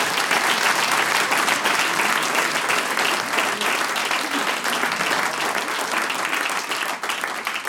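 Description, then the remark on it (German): A large crowd applauds steadily for several seconds, a dense, loud wash of clapping that stays strong throughout with only a slight dip near the end. “Die singen alle fleißig mit und applaudieren.”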